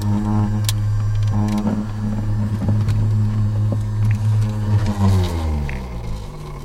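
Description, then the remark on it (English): A portable centrifuge spinning snake blood samples, powered off the cigarette lighter in a field team's truck, whirs loudly, its motor giving a steady droning hum with a layered whine that wavers and slides lower near the end as it winds down. “Once it's drawn, the snake's blood is spun in a centrifuge that runs off the cigarette lighter in the team's truck.”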